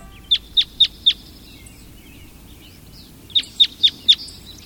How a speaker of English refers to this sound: We're hearing the call of a red crossbill. Crossbills travel in a small flock in search of seeds from the cones of pines, spruces, and firs.